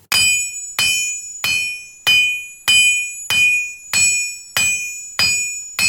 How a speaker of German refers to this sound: Also man kann heraushören, dass es ein Gewicht dazu hat, im Gegensatz zu den normalen Hammern, die man halt in eine normale Schmiede verwendet, zum Beispiel so.